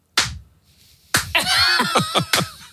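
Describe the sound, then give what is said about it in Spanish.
Several sharp hand claps from a woman clapping at home at five in the morning, one alone at first and then a loose, uneven run of about six more, mixed with high, squealing laughter-like vocal sounds. “a mi mujer aplaudiendo, que yo, fíjate que llevaba una castaña que pensé, qué gorda ha sido la ovación de hoy, que todavía me resuena en la cabeza.”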